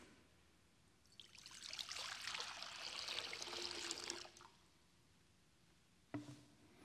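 Water is poured steadily into a baptismal font during a church service for about three seconds, a soft, continuous splashing that rises and fades, followed by a brief knock near the end. No one speaks.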